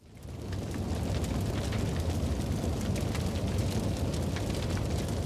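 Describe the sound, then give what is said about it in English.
A large fire roars steadily with a dense, rumbling low end, while sharp crackles and pops burst irregularly on top, like scattered firecrackers going off. It is a garage engulfed in flames beside a house, at 1 a.m. on October 27th, 2011. No voices are heard. “she can hear something that sort of sounds like firecrackers going off outside of her bedroom window.”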